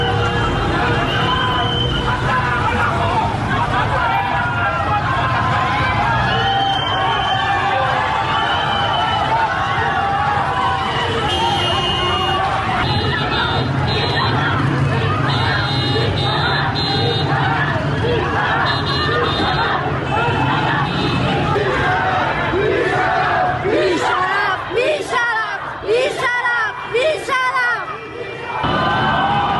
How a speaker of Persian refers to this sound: جمعیت بزرگی در برابر بیمارستان کسرا جمع شدند. اعتراض مردمی با بوق میدان آرژانتین بیمارستان کسرا.